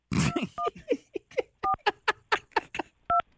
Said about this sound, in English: I'm getting a hold of him right now. Heavy breathing. Well, you're a slow dialer.